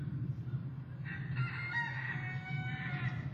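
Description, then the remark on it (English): A rooster crows loudly amid the steady clucking of several chickens in a garden, the calls drawn out, with a constant low rumble underneath and no talking. “Chickens!”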